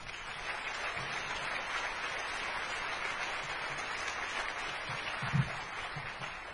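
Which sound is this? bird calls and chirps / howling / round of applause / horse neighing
round of applause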